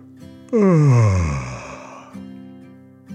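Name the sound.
yawn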